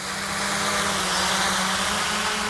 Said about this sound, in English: On Friday afternoons, this is usually where you'll find Chris Anderson, out by the Berkeley Marina, flying drones.